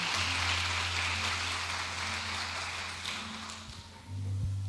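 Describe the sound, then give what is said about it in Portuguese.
A church audience applauds as praise to God in a dense, steady wash of clapping that thins slightly toward the end, with a low sustained tone humming underneath throughout. “Nós daremos a ti a honra, a glória e o louvor, e nós fazemos isso como a salva de palmas ao teu nome. Aplauda ele.”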